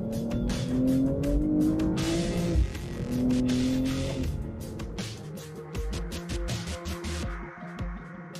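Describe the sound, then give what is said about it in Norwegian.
A BMW sports car with four-wheel drive accelerates hard, its engine roaring with rising pitch through two strong surges, then rumbling and revving unevenly with some tire noise. No one speaks. “Og dette en bil du kan presse skikkelig hardt.”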